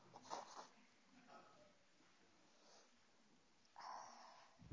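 Breathy nose blowing into a tissue by a speaker during a reading of James chapter 5: a short honk, a softer snuffle, then after a quiet pause a longer, louder blow near the end.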